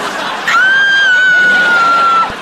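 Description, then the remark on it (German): A loud, sustained high-pitched scream rings out for under two seconds over a noisy, crowded background, holding one steady shrill pitch before cutting off. “Kreisch doch mit. Wieso kreischst du denn nicht mit?”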